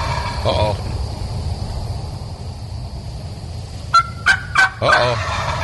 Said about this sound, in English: Those are Osceola turkeys down in South Florida.